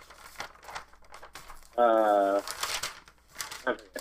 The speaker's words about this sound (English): Slamboree. I had to look back in my notes. That's why I hear the paper crinkling.